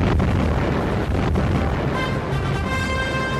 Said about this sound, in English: Soon American troops are to land here, preceded by an immense bombardment.